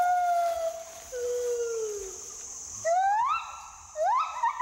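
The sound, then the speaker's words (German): A male and a female gibbon sing a duet love song of long sliding hoots: a few descending wails, then louder rising whoops building into quick bubbling trills. Clear, with no talking. “Liebeslieder. Da singen dann Männchen und Weibchen zusammen. Wie so ein Duett in der Oper.”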